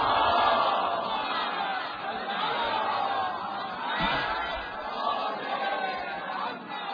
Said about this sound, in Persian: یک صلوات خیلی بلند بفرستید.